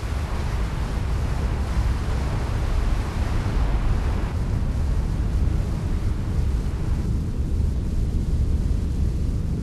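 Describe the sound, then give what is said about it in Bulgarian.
The massive Niagara Falls roars steadily, a dense, unbroken rumble heavy in the low end with a hissing wash of spray above it, loud and constant throughout with no voices. “Гърмът пред нас до толкова се усилва, щото за да се чуем, ние викаме.”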